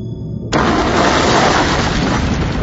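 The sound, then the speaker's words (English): A bomb explosion erupts abruptly after a brief low rumble, a loud, deafening blast that turns into a sustained roar of debris and noise filling the rest of the moment. “The explosion was deafening, shattering, assaulting her body and mind and senses, and she felt herself thrown around like a snowflake in a storm.”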